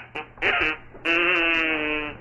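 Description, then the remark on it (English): A little novelty whistle, blown during joke time, gives a weird, buzzy, duck-like squawk: a tiny blip, a short reedy honk, then one long sustained nasal blast that slowly fades. “She wears odd socks, and she had a big coat and a big bow tie, and she had a little whistle she'd blow when we had joke time, and it would make a weird sound.”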